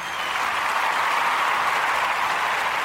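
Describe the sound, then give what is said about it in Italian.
A studio applause sound effect: dense, steady applause from a crowd fills the whole stretch, a continuous wash of clapping at even loudness with no voices standing out. “Ho anche tutti gli applausi del nostro bellissimo studio.”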